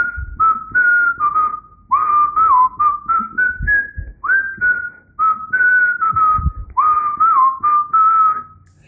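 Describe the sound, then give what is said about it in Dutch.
Someone whistles a clear melody in a series of short phrases with brief pauses between them, fairly loud, with no talking over it. “als jij begint met fluiten, dan kunnen wij laten daar iets luisteren van vinden.”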